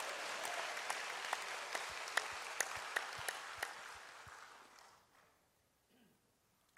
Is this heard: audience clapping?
yes